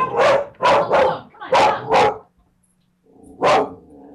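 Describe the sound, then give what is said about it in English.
A dog barks sharply five times in quick succession at a chipmunk outside, pauses, then lets out one more loud bark; a faint low hum and brief murmur fill the gap. “we're getting some interesting vibrations from her dog, and it's perfectly all right.”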